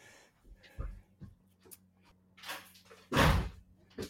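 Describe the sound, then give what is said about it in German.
A door is handled: a few soft thumps and rattles, then a louder clunk as it shuts, with some scraping and rustling around it and no voices. “Aha, jetzt klingt es an der Tür.”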